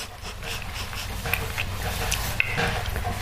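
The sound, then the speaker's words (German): A dog pants steadily, a soft rhythmic huffing that runs throughout, with a couple of faint clicks and no clear talking. “Alter, der schlägt mich, der Hund. Mit dem Schwanz.”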